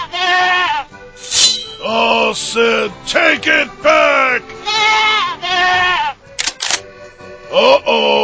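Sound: goat bleating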